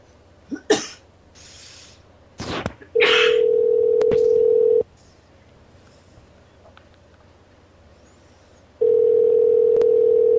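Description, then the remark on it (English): A telephone dialing a home number: after a few short coughing bursts, a loud, steady single-pitched phone tone plays for about two seconds, falls silent, then starts again. No one speaks. “I got another phone number for that 253 number. I think it's their home number. Oh, shit. Call it.”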